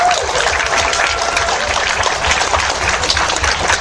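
Steady audience applause for the event's staff, a dense, even wash of many hands clapping at once, fairly loud and sustained throughout with no voices standing out.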